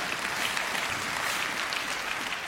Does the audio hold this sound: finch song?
no